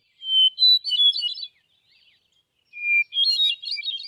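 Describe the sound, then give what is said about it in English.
A hermit thrush sings in a Maine forest, two flute-like phrases, each opening on a sustained pure note and rising into a fluttering cascade of higher tones, with a short quiet pause between them. “the ethereal song of the hermit thrush, famous for ushering in summer evenings in the Maine forest.”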